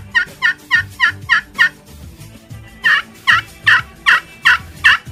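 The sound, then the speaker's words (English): A crystal friction turkey call imitates a hen yelp: six quick, evenly spaced notes, then a pause and six louder, slower, raspier gobbler yelps. Clear, with no talking. “I do not have a slate call, but I'll do one on a crystal call, and it's just a little bit of a slower one. I'll do a hen yelp first, and then I'll follow it up with a gobbler yelp.”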